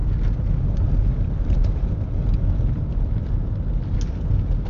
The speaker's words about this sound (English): And it's still pretty bad today. A lot of blowing snow. We got somewhere around, I don't know, a foot of snow. Some say around 7 or 8 inches, but with the blowing, you've got some areas that are 4 feet thick, 4 feet deep,